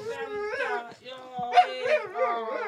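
A dog howls and whimpers in a continuous, wavering run of high whining tones that rise and fall over a few seconds, with one louder yelp-like peak midway.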